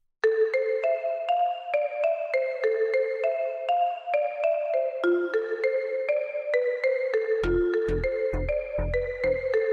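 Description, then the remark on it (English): A phone in Alma, Colorado rings one evening in 1982 with a bright, melodic electronic ringtone, its stepped tones repeating steadily and loud, while deep booming thumps join in near the end. No one speaks. “on the evening of January 6, 1982, a phone in Alma, Colorado rings.”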